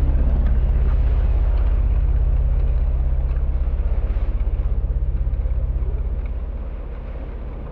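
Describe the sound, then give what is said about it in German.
A heavy, continuous low rumble of a wagon's heavy wheels rolling over hard ground out of a castle courtyard, with a rhythmic pulsing in the bass and scattered clatter, fading gradually as the wagon moves away. No voices. “Ich höre, wie die schweren Räder des Wagens aus dem Innenhof rollen.”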